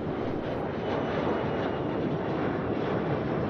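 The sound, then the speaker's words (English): Steady, loud jet engine roar of an airplane idling on an airport tarmac, with a broad rushing hum that stays constant throughout and no voices. “Well, they don't let people just out here on the tarmac like this.”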